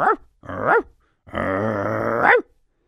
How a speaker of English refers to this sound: And we're going to talk about my comfort dog. Yeah, a comfort dog right here in the studio.